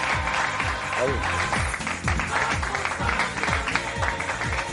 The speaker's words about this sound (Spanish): Tiene un sonido, atención. Aplausos, hay aplausos.